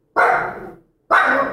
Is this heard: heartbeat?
no